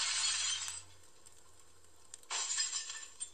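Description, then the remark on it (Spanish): The window glass of a house cracks and shatters during a tremor in a loud, bright burst, then small shards tinkle and settle before a second crash of breaking glass follows near the end. “Entonces, los vidrios de su casa empezaron a tronar.”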